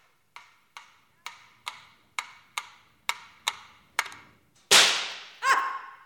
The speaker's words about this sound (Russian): Мимо. Ружье подпрыгнуло у меня в руках так, будто хотело хлопнуть меня по носу.